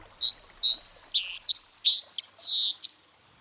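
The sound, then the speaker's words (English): A dipper sings a rapid, bright song of high whistles, buzzy trills and sharp chirps, clear with no talking, running continuously for about three seconds before stopping. “Ewan with the answer to this week's mystery bird there, the dipper.”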